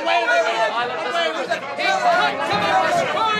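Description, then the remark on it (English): A crowd of many voices shouts and yells at once at Pilate in a loud, continuous clamor, overlapping cries rising and falling without pause for a few seconds. “Start yelling!”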